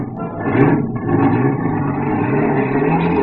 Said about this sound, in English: The fresh air revived me. Some poor guy was just starting his car. I grabbed him by the neck and threw him out, and I took the wheel.